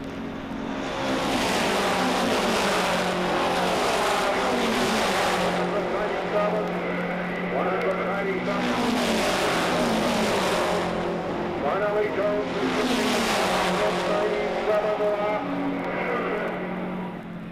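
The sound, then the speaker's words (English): Race cars roar around an oval track during a race, their engines droning steadily while packs of cars sweep past in three loud, whooshing surges, each swelling up and then fading away. “Turn and onto the straightaway now. He will complete 197 laps. Is riding in the number four position in car number two.”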